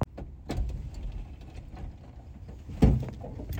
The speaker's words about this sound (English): No car payment. Squeaky door. Hot as balls in here. Paid for.